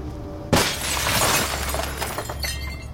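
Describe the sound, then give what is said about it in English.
A sudden loud crash of breaking glass as a rock is flung through the glass French doors of a trailer home in the hills overlooking L.A., followed by a couple of seconds of shards tinkling and scattering. “Discant steadies himself as Ludlow flings a rock through the glass doors.”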